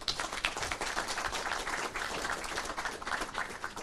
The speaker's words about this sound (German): Herzlichen Dank an den AOK-Bundesverband. Das ist ruhig ein Applaus wert.